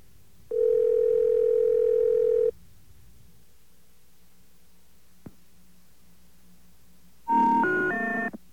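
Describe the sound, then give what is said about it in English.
A steady telephone dial tone hums for about two seconds, then silence with a single click, followed by a loud burst of stepped electronic phone-line tones as a call to the 2600 Voice BBS is picked up. No one speaks. “And many people are confused by the way the phone is picked up, so don't be confused when you hear this.”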